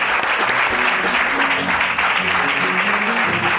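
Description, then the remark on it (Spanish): Audience applause for guests on the CMM Radio programme Investiga, no es poco, a dense steady wash of many hands clapping at a constant loud level for several seconds, with faint voices mixed in underneath. “Así que les damos un aplauso e invitamos a nuestra próxima invitada para que siga.”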